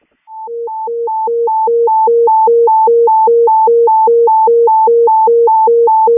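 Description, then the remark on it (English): A loud, steady electronic dispatch paging alert alternates rapidly between a high and a low tone, hi-lo hi-lo, for about six seconds, a general alarm paging Crystal Lake fire investigators to a structure fire at 5005 Northwest Highway, Crystal Lake. No one speaks. “can you do a general alarm for Crystal Lake for fire investigators, and they can contact the battalion chief's phone?”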